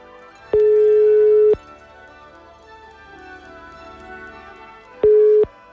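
A telephone ringback tone as Radio Ognjišče calls a listener in Kamnik for a birthday greeting: a steady, mid-pitched electronic tone sounds for about a second, falls silent for several seconds, then starts again briefly, over a faint background.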